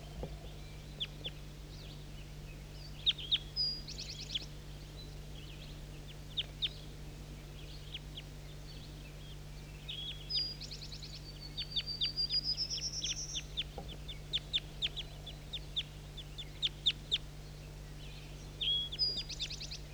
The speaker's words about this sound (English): start recording these birds that are close now. Definitely big guy.